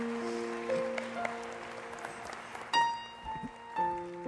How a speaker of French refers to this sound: Applaudissez la protection de l'onction de Dieu.